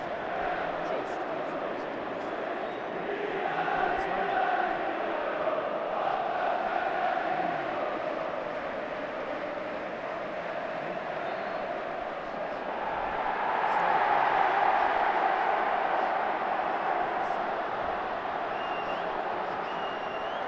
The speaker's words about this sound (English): Yeah, that cheer from the top. You can hear it's offside. We're still goalless.